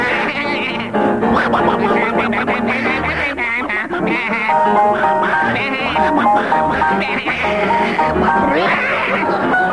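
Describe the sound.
Voices sing a tune as a duck and a sheep, imitating a sheep's bleating, warbling and wavering, loud, with quacking-like sounds mixed in over nearly ten seconds.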